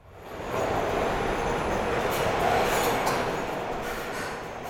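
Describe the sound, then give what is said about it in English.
A subway train rumbles loudly and steadily through a station, its broad roar swelling in quickly and holding for several seconds, with no voices heard. “Our train should be here any minute.”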